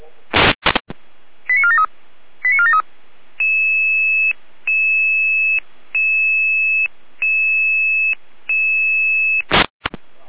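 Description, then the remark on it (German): A radio pager alerting sequence from a dispatch centre in Saalfeld-Rudolstadt: short bursts of noise, quick pairs of rising beeps, then a repeating pattern of steady electronic tones with brief gaps, loud and clear with no talking. “Alarmierung?”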